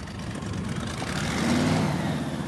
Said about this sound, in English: This afternoon, Plaquemines Parish crews worked with backhoes on the small levee that was overtopped by Isaac's storm surge. They're working to breach the earthen dam, dig a hole that will allow the floodwaters now covering Braithwaite to flow out,